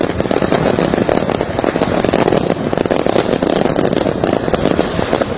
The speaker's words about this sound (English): Probably the most spectacular fireworks show we'll ever see in our lives. It was quite a sight to behold.